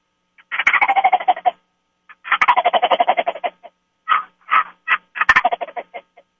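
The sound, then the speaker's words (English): A turkey gobble call imitation sounds off in three loud, rapid rattling bursts, each a quick string of throaty pulses that tumbles downward, with short pauses between and no talking. “So I'm going to let you listen to this gobble, too.”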